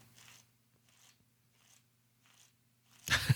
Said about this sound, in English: You might be able to hear me flipping paper back here because I started doing that as a nervous reaction and then you hit that and then I kept doing it because now my brain is working.